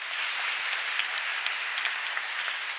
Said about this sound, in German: Ja, kann man schon einen Applaus geben?